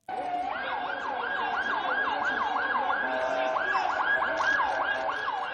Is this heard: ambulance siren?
yes